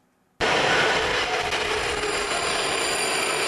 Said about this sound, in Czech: Jsme ve stanici metra Florence. Právě tady začíná naše vycházková trasa.